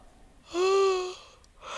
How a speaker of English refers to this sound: I'm sorry I keep yawning